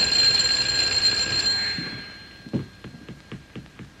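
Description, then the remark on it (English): A bright electric doorbell rings continuously for about two seconds, then fades out, followed by a series of soft, irregular thumps. The bell is rung by someone who has been locked out, to be let in. “Well, why don't you ring the bell? She'll let you in.”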